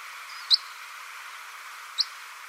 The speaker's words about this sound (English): Pectoral sandpiper and some Arctic terns. Willow warbler, common red pole, and red-throated pipit.